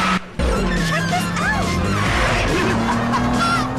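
Several powerful, massive, extravagantly painted modified cars roar loudly and continuously as they speed out of a warehouse lot through an open mesh fence, with short rising and falling tire squeals cutting through the rumble.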